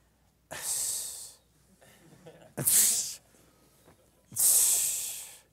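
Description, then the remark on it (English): A person imitates a hissing noise of disgust, demonstrating the 'hissing' of a Bible passage: three loud, breathy hisses, the first and last drawn out and the middle one shorter, with faint murmuring between them. “It's a noise that you just make in disgust.”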